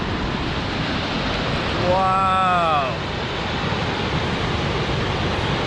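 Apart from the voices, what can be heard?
rushing waterfall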